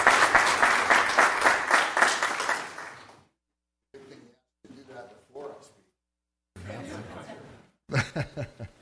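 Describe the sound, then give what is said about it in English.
A First Presbyterian church audience claps in welcome for a guest presenter, a dense, steady burst of applause lasting about three seconds that fades out, followed by a man speaking in short phrases with brief pauses. “I don't normally ask you to clap, but let's give him a First Presbyterian welcome.”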